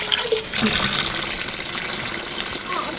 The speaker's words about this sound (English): Now I'm gonna rinse. I washed, kind of scrubbed her clothes, got all the sand off.